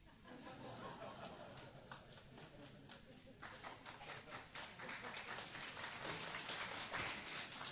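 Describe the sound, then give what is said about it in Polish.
An audience breaks into steady applause, a dense crackle of many hands clapping that swells louder and fuller partway through and keeps going to the end. “To nie dla mnie brawa, bo ja to usłyszałem na pewnej konferencji,”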